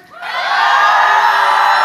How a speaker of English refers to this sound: Yes! Standing applause by one man that really wants to get to know me.